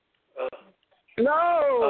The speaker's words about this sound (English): I know you can hear these hiccups.